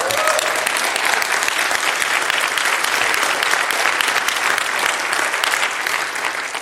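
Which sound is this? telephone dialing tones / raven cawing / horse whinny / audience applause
audience applause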